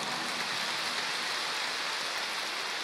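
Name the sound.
audience applause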